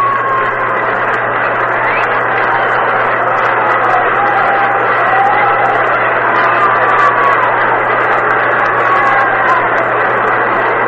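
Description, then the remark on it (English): A steady wash of crowd applause and cheering at a baseball game, given to pitcher Early Wynn as he comes in, holds at an even level for the whole stretch, with a low constant hum beneath it and faint wavering tones threaded through the noise. “And here comes Early Wynn, and he'll get a fine round of applause.”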